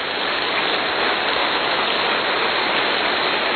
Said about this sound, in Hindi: अच्छा, अब थोड़ा सा ताली बजाओ, 100 ताली।